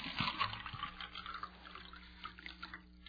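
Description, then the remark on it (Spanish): Water pours and splashes as two glasses are filled, a steady trickling gush that starts strong and tapers slightly, moderately quiet, with no one speaking. “Primero, llena 2 vasos con agua.”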